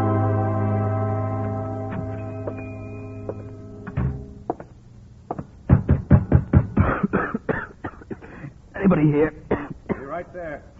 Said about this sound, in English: Hey, you've got a bad cough.